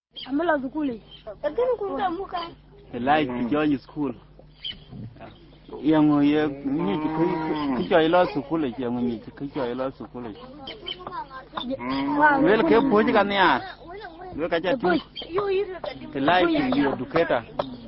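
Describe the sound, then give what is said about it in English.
Cattle low repeatedly at a cattle camp in southern Sudan, with several long, drawn-out moos overlapping one another, while people can be heard talking in the background throughout. “Cattle camp is where boys and girls are initiated into life with cattle, southern Sudan's highest form of wealth.”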